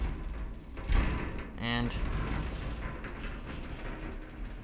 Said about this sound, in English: Actually, you know what? I'll just show you what one of these shower faucets sounds like in one of these shower doors. Same as in the other bathroom.